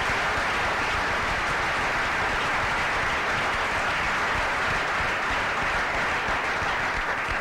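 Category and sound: crowd, audience round of applause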